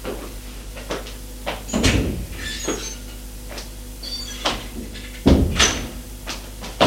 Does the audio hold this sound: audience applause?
no